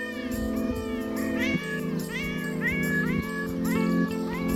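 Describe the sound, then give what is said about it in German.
A stray cat meows repeatedly in quick succession, each call rising and falling, fairly loud over a steady tonal drone underneath. “Christian Klaus hat diese streunende Katze beigesteuert.”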